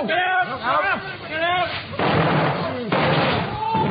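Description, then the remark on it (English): Firework rockets go off after a fizzing fuse: wavering, whistling tones for the first couple of seconds, then two loud, crackling bursts about a second apart that keep rumbling until the end. “I said the fuse powder's fizzing away very nicely now. Look. Look out, sir. I think it's going to go up.”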